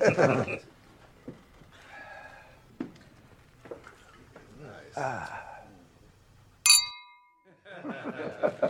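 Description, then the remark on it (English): A single bright clink of glasses in a toast rings out near the end in a recording studio, its tone briefly lingering, set among murmured voices, gasps and laughter from a small group. “Cheers to the mighty …”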